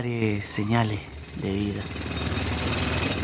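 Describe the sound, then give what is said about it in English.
Voices speak briefly, then a loud rock drill takes over as trapped miners drill in a mine to give a sign of life, hammering in a rapid, steady rattle that continues to the end. “So we started drilling. Quick, let's drill over there.”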